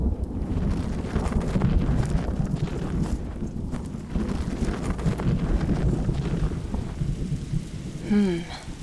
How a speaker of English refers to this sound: Rain again, it seems. I suppose it is that time of year, early spring and all, but I think it's rained for quite enough time already, don't you?